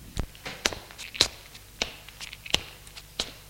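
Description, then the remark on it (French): Around six footsteps thud and scrape at a slow, slightly uneven pace as a woman climbs the three steps of a terrace toward a house's front door, quiet, with no talking. “Elle monte les trois marches de la terrasse et va vers la porte d'entrée.”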